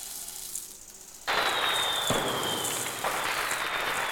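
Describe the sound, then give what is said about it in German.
After a quiet moment, fireworks burst into a loud, continuous crackling hiss with a high whistling streak, punctuated by two sharp pops, set off on a sandy beach in a nature reserve. No one speaks. “Was war das? Ist das Feuerwehr?”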